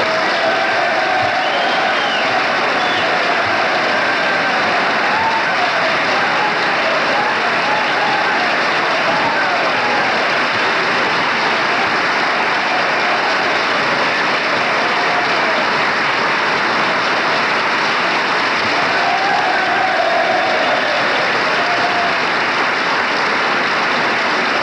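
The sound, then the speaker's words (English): A large crowd of legislators, Gerald Ford's colleagues, stands applauding steadily and loudly after a reference to minority leader Gerald Ford: a dense, unbroken wash of clapping with a few scattered voices underneath that continues without pause for the whole stretch. “Gerald Ford's colleagues are on their feet applauding, and obviously that reference was to the minority leader, Gerald Ford.”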